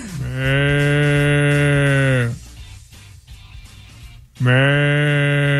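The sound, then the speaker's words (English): A person imitates water buffalo calls with two long, deep, droning moos, the first lasting about two seconds, then a pause with faint noise before the second loud, steady low bellow begins. “the walls start crumbling because water buffaloes are coming from all over the land?”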